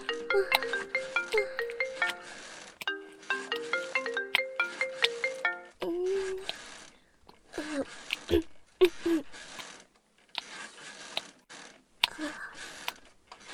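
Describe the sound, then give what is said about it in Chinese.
A mobile phone rings with a bright electronic melody, an incoming call from a woman's husband, repeating its short tuneful phrase a few times before giving way to scattered clicks and faint voices. “等一下啦，公公，你轻一点，我接下老公的电话。我要是不接的话，他就会一直打的。”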